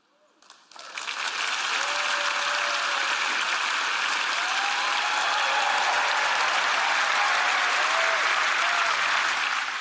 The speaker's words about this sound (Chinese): 继续大声鼓掌，各位，你们都冒着雨，好好。有人淋湿了吗？